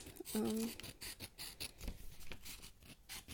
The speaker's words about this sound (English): I started making them so long ago, and I remember I would cut out little strips of paper, like you can hear me cutting now.